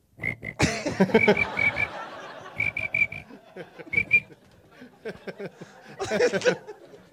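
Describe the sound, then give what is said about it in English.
A person whistles short, high chirping bursts in quick pairs and triplets, mimicking a cricket, with breathy mouth noises and a louder raspy burst near the end. “That was a whistle. That was a cricket jumping on a buzzer. Sounded like a giant cricket.”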